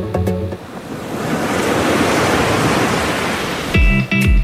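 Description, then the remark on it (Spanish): Broad, steady ocean surf washes in a continuous roar, swelling gently, bracketed by brief bursts of bright musical tones at the start and end. “¿Qué es el océano?”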